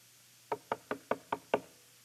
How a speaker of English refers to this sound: So he goes in and he would come in and knock on your door.